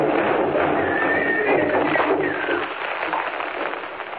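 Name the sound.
horses galloping and neighing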